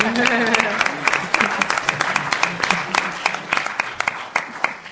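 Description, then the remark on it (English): An audience applauding after a speaker finishes, with a steady wash of many hands clapping, sharp individual claps popping out irregularly above it and a murmur of voices underneath. “Now, at Chicago, we clapped after each person.”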